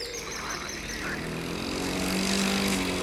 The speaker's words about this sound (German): Ich mähe jetzt meinen Rasen.